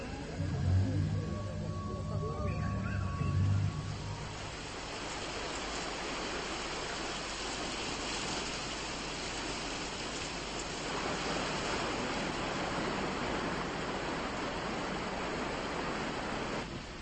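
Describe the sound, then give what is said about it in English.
Heavy rain from a typhoon off the coast pours down in a steady, dense roar that fills the whole scene, with a low rumbling hum underneath for the first few seconds before the downpour continues alone. It is the first day of heavy rain. “This is the first day of heavy rain. A typhoon is off the coast. I've never seen it rain so hard.”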